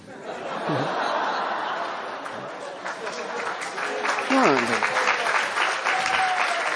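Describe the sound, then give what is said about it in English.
A crowd applauds a man steadily for several seconds, a dense wash of clapping that swells slightly toward the end, with some laughter and a few voices mixed in. “No, this is applause for him, not for me.”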